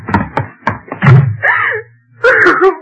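A door slams and is pounded on: four heavy, evenly spaced thuds, the last booming loudest, followed by a raised, strained voice calling for the locked door to be unlocked.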